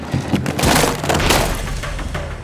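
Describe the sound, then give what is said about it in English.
A wooden door frame cracks and breaks apart as the door is pushed hard and gives way, its screen tearing: a loud run of sharp snaps and splintering crunches that keeps grinding on for a couple of seconds, with no voices. “He heard something crack before the door gave way.”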